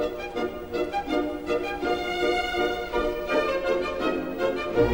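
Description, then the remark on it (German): Woodwinds in the second movement of a symphony play steady, evenly spaced staccato notes imitating the ticking of a metronome, set against a gentle orchestral backdrop at moderate volume, with no voices. “Lässt im zweiten Satz bei den Holzbläsern das Mälzelsche Metronom ticken, sagt man.”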